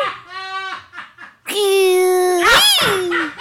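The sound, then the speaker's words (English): A voice imitates the scream of a turtle mating with a crocodile: a short whiny cry, then a long, loud, strained wail that swoops up into a shrill squeal and back down. “The scream of the turtle.”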